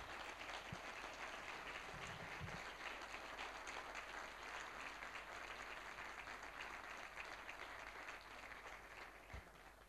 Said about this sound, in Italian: Abbiamo fatto un applauso a Gesù e a Don Oreste insieme.